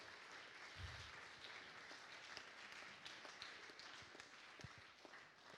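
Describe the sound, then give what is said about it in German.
Sustained audience applause for the musicians' music fills the space, a dense wash of many hands clapping steadily at moderate volume, with a few sharper individual claps standing out and no speech. “Ich finde, es ist einen fetten Applaus wert.”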